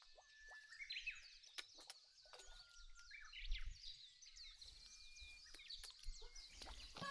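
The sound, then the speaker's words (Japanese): Birds chirp and tweet in quick, overlapping high calls that continue throughout, fairly soft, over a quiet outdoor background with faint low rumbling. “鳥にかかられてますね。”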